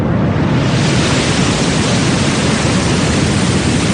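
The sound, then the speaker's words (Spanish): Gentle waves on a calm sea make a steady, even wash of hissing surf with a soft low rumble underneath, continuous and unbroken, with no voices. “Tenemos mar en calma, olas débiles, así están las cosas.”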